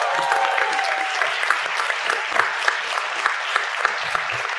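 A steady round of applause from a crowd, dense clapping with a few sharper individual claps standing out, holding at an even loudness throughout with no voices.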